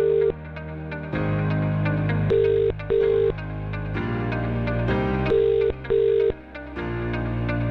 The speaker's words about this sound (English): Right, here comes person number two. We've got it now, right. Your phone's ringing. Pick it up.